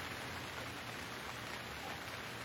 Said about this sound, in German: Hör den Klang des Regens.